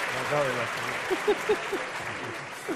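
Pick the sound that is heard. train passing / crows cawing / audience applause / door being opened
audience applause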